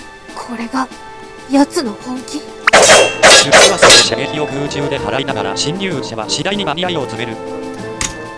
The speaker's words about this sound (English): And all of his arrows are now deflected.